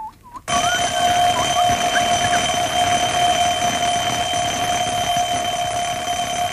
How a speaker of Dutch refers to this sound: Nou zet ik hier de wekker neer en die laat ik aflopen. En dan komt die zo. Let op.